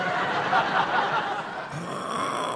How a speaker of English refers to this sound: Listen to him snoring. Now I know what his job was in the Merchant Navy. I bet he was the ship's hooter.